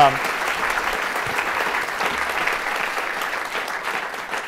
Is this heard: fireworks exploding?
no